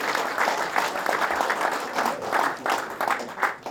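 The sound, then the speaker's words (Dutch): Sustained applause from an audience for a performer, a dense wash of many hands clapping steadily for several seconds at a lively level. “Applaus voor”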